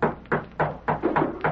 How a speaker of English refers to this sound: But that night, as he sat alone in his home, someone knocked at the door and... Yeah, who's there?